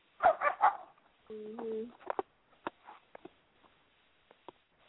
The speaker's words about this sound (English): Oh, well, dogs stop barking. That's why I stopped for a minute.